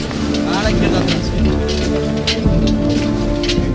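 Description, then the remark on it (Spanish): A heavy downpour roars steadily and loudly throughout, with indistinct voices and a low droning hum mixed in beneath the dense hiss of rain. “Se está haciendo con bastante velocidad porque realmente está cayendo un chaparrón.”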